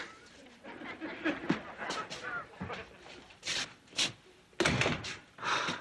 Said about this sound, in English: Close the door on your way out.